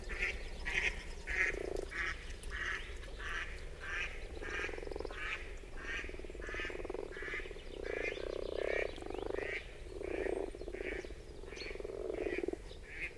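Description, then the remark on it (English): A huge group of grass frogs in a pond above Geis in Appenzell, recorded March 31, 2021 with a quadraphonic DPA setup, fills the scene with a continuous, strange humming drone, countless overlapping low croaks pulsing steadily, fairly loud, with no voices present. “A huge group of grass frogs in a pond above Geis in Appenzell, making some strange humming drone sounds.”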